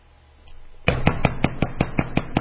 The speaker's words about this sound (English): So you're in the kitchen and three knocks on the door.